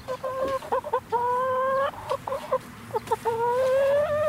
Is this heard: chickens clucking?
yes